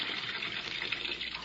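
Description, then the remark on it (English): Steady rushing of water pouring into a bathtub to fill it about half full for an experiment, a continuous hiss and gush that holds an even level for the whole short stretch, with no voices. “But if I could get into a pair of swimming trunks and into a tub half full of water, I think I may be able to prove a very important point.”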